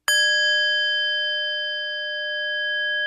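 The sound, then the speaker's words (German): A meditation bell in a meditation hall is struck once by someone, clear, its bright layered tone ringing on steadily and only slowly fading over several seconds, with no other sounds. “Jemand schlägt die Glocke.”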